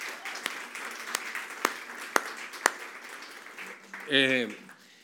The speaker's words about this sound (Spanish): podríamos hasta darles un aplauso porque nos sirven a nosotros con excelencia.